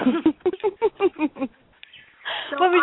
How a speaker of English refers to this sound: Sorry, Birdie Bird's really singing, so okay.